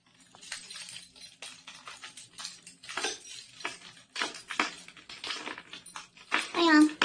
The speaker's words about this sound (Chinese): 门怎么这么难开啊？钥匙明明全插进去了，又错了 啊！终于开开了，看来这新装的门钥匙孔一定得好好捅捅门才好开。